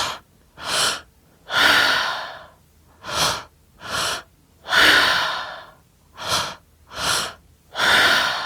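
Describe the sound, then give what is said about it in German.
Rhythmic breathing in quick cycles during a guided breathing exercise: short sharp breaths alternate with longer, fuller exhales, repeating steadily with no talking over them. “Und weiter atmen.”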